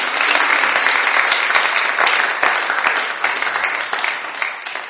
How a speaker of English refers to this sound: Thank you so much. You can give a little clap if you want, that's okay. That's fine.